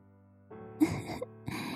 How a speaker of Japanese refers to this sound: 大きなあくびね。まるでカバさんみたい。